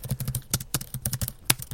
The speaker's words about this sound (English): What's wrong with that sound? Typing, isn't it? I cannot bear the sound of people typing.